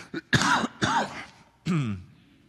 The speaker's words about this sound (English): Excuse me. I have a cough, and it's been there for the last 5 minutes, and I've been trying to repress it until finally it came out.